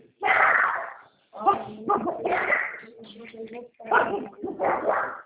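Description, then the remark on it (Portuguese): A dog barks repeatedly in three loud bursts, the barks mixed with whiny yips and whimpers, with short pauses between each flurry. “Ela tá latindo ali, ó.”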